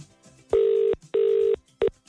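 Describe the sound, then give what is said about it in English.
A telephone rings with two steady electronic buzzing tones in quick succession, then a third ring cut off almost immediately. The rings are clear and fairly loud, with no one talking. “Remember, you got to answer the phone a particular way.”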